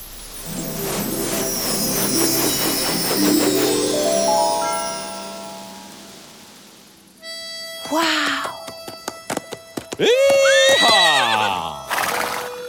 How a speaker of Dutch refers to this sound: Dit is mijn paard, Billy Bob. Hey, Billy Bob.